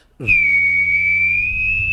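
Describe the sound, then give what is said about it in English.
A person vocally imitates a jet taking off: a sustained, steady high whistling tone over a low rumbling hum, starting abruptly and holding loud for nearly two seconds. “Jet taking off.”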